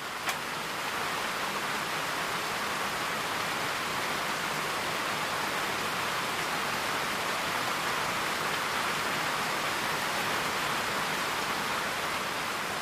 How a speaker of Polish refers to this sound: Pamiętam dokładnie moment, kiedy stwierdziłem, że właśnie to jest coś, co warto robić i po prostu byłem uwięziony w czasie ulewy w jakimś szałasie w lesie.